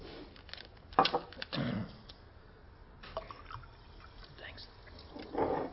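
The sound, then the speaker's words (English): Water is poured into a glass in a few short, quiet trickling bursts, with faint clinks and drips between them and soft background murmuring. “Could I have a little more water?”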